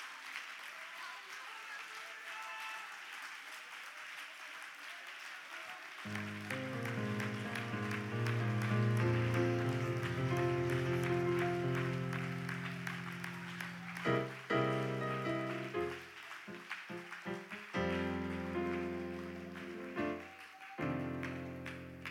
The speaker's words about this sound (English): I believe we can clap our hands to God and give him a little praise right now.